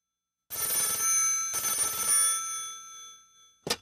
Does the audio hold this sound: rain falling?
no